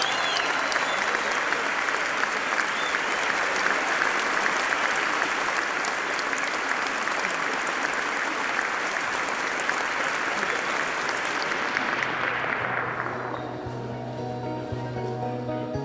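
Sustained audience applause, a dense wash of clapping that holds steady for about twelve seconds, then thins out and fades as a low musical tone rises underneath.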